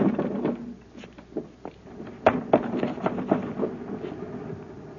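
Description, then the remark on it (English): An unlocked window that is already partway open is pushed open from a ledge outside: a run of wooden creaks, scrapes and soft knocks over several seconds, with a low rumble underneath and no talking. “Is that window unlocked? Yes, sir, and it's partway open. All I have to do is push it.”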